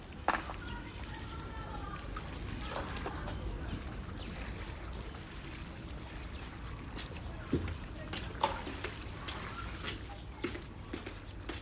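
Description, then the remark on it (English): A flat-bottom boat punted along a canal in an old-style water town with narrow stone bridges: steady watery wash with occasional sharp splashes and knocks from the pole, set against a busy ambient background with faint, indistinct voices. “Little narrow stone pointy bridges and people literally punting along the canals in these flat-bottom boats.”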